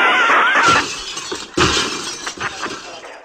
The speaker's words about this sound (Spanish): ¡Niños! ¡Cargaros todos los cristales de la clase, venga!